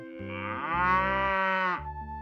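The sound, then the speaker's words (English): A cow moos once, a long, loud, low call that rises and swells in the middle before tapering off, with no other sounds around it. “Two girls get milk from their cow.”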